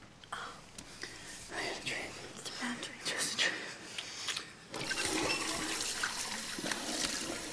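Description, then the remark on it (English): A man splashes cold water onto his face in a bathroom: soft, irregular wet splashes, then a steady loud gush of running tap water takes over for the last few seconds. “He splashes cold water on his face and rubs a hand over his brow.”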